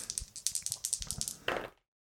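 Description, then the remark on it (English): Dice rolled on an interior feature chart rattle and clatter in a quick series of sharp clicks for about a second and a half, ending in a brief tumbling settle before silence. “I'm going to roll on the interior feature chart again.”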